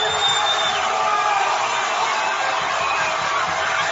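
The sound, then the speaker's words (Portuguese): A crowd of Brazil football fans at the Vila Olímpica roars and cheers after Renato Augusto's goal for Brazil in a World Cup match, a loud, dense, steady wall of shouting and whooping that holds at full strength for the whole four seconds. “Lá, a torcida comemorou o gol de Renato Augusto com gosto.”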